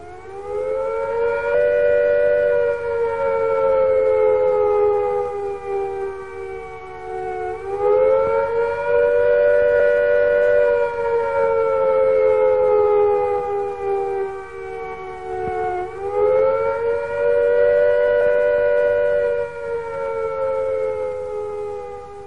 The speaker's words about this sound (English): First, the attack warning. If an attack is expected, the sirens will sound a rising and falling note like this.